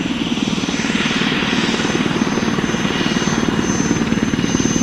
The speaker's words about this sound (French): Alors ça c'est un son que connaissent bien les alpinistes, c'est l'hélicoptère. Donc ça veut dire soit on apporte du ravitaillement à un berger, ou bien soit on sort de la montagne et on va secourir quelqu'un.